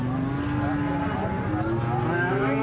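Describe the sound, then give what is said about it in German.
Several cows moo in overlapping, drawn-out calls against a dense backdrop of livestock noise at a large weekly market outside the gates of Kashgar, an old trading city on the Silk Road, where local farmers drive their sheep and cows onto the market square. “Die Bauern aus der Umgebung kommen mit Traktoren und Eselskarren und treiben ihre Schafe und Kühe auf den Marktplatz.”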